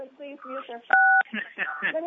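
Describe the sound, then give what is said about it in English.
A single telephone keypad tone beeps once, steady and fairly loud for about a third of a second, sandwiched between stretches of people talking on a board meeting call. “Well, somebody's not being recognized and they play the phone.”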